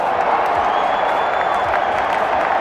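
An audience applauds steadily, a dense, even wash of many hands clapping at once that holds at the same loud level throughout, with some crowd noise mixed in.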